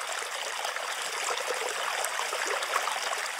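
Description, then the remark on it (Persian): Water from a spring flows in a steady, bright babbling rush, continuous and even in loudness, with a fine trickling texture throughout. No voices are heard. “یکی از کارهای دختر بیچاره این بود که باید روزی دوبار کوزه‌ای برمی داشت و از آب چشمه‌ای که فاصله زیادی با خانهشان داشت پر می کرد و به خانه می آورد.”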